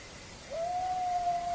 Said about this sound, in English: Are you hearing this howl? I am hearing this howl. It's coming from over that way.